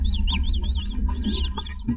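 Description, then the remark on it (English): High, thin chirps from a naked mole rat colony arrive in quick succession, rising and falling in pitch over a rough, rumbling low-frequency background noise. “Every naked mole rat colony has its own highly specific chirp.”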